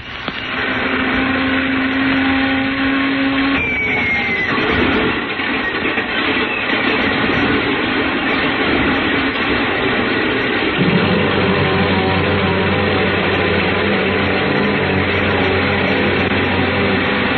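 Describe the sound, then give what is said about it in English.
A loud, steady airplane engine drone runs throughout as the engine is warmed up at an airport at night before takeoff, with a rising whine early on and a deeper rumbling tone building near the end, like a propeller engine revving up. “I didn't waste much time warming up the engine.”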